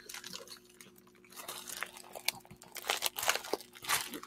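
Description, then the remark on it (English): Crinkling packaging crackles and rustles in irregular bursts during an unboxing, with sharp crisp crunches scattered through a steady papery rustle; no one speaks. “Do a quick Tuesday morning unboxing.”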